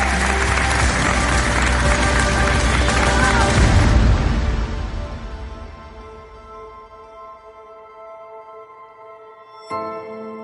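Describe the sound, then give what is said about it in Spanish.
Sustained, dense applause from many people in homes across Spain rings out loudly for about four seconds, then gradually thins and fades, leaving a soft tonal hum and a brief sharp burst near the end. “No os puede sorprender que desde las casas de toda España se oiga un aplauso emocionante y sentido, un aplauso sincero y justo, que estoy seguro que os reconforta y anima.”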